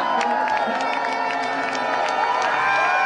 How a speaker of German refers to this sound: Kapitän Max Dari bahnte sich mit dem silbernen, tellerähnlichen Pokal einen Weg durch die dichte, jubelnde Menschenmenge.